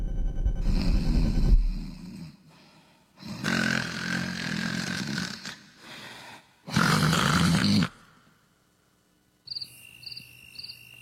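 A person snores loudly in three rough, rasping bursts a few seconds apart. Quiet gaps separate them, and faint rhythmic chirping, like crickets, follows at the end. Nobody speaks.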